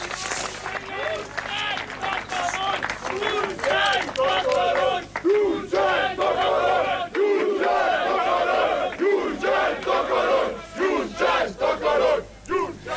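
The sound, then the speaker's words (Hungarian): A large crowd of protesters in Körmend chants and shouts in loud, rhythmic unison, demanding the resignation of Prime Minister Ferenc Gyurcsány, many voices rising and falling together in repeated bursts that continue steadily for the whole stretch. “Körmenden is tüntettek, mint ahogy előbb is hallhatták, csak nem 200-an követelték Gyurcsány Ferenc miniszterelnök lemondását.”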